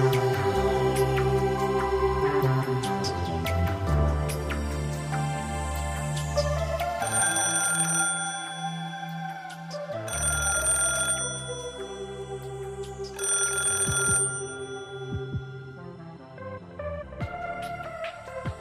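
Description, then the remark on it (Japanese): A telephone rings one evening in several repeated bursts, fairly loud, over a steady bed of background music, with no one speaking. “再び彼女から電話があったのは、さらに3日後の夕方のことでした。”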